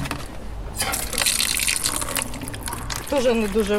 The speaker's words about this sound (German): dreht einen Hahn auf, der durch einen Schlauch mit einer Zapfstelle verbunden ist. Dann lässt sie ihre beiden Eimer randvoll mit Wasser volllaufen.